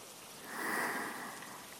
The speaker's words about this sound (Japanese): 綺麗な色、しとしと降り注いで、すがすがしい雨。一つ一つが繊細で、心を洗い流してくれる、そんな雨。